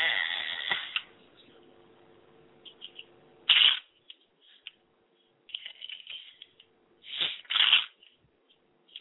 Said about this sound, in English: Crazy sounds, I was dropping cards at the same time. While I was shuffling, I was dropping cards.